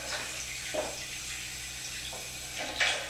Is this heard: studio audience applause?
no